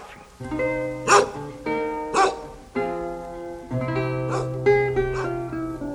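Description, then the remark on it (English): A few short, sharp dog barks spaced about a second apart, standing out over a steady backdrop of sustained musical chords that plays throughout. “Doggy. Woof, woof. Woof.”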